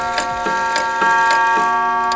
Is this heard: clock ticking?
yes